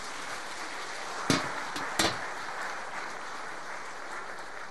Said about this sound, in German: Und einen Applaus vielleicht nochmal.